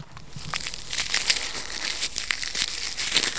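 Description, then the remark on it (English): Abalone shells burned in a campfire knocked together, giving a dry, brittle crunching and crackling, a steady run of small scraping clicks rather than clear ringing taps, moderately loud and with no voices. “And this is what those same shells sound like that were burned in the campfire.”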